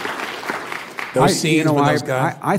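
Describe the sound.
A brief patter of audience applause from those who have seen Oliver Stone's film Nixon, a loose crackle of scattered claps lasting about a second, then it fades as a voice begins talking.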